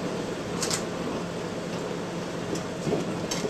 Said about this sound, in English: Okay, the water boiling, we put the corn in there.